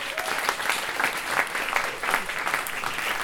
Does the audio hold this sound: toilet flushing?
no